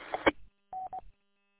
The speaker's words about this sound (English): Well, I got a phone call coming in here, so I want to let you go.